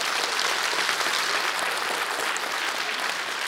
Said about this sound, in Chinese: 你们将掌声将荣耀归给我们的神。